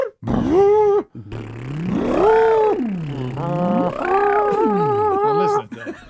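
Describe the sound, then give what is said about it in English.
A voice hums an eerie sci-fi tractor-beam effect in a car, its loud, buzzing tone swooping up and down in slow arcs over about six seconds, with no talking. “Oh, tractor beam,”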